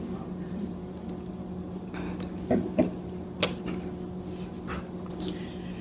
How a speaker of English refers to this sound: Actually, I'd like to begin by taking a sip of water and then I'll tell you a story.